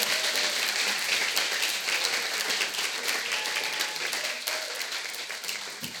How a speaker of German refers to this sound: Gebt mal einen Applaus für Wiener.